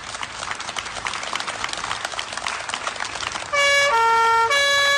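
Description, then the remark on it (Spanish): Steady applause from local police honoring healthcare workers at a hospital emergency entrance fills the scene. Near the end, loud sirens from the police patrol cars at the entrance break in with sustained wailing tones. “Se presentaron con los coches patrulla en la entrada de urgencias y empezaron a aplaudir.”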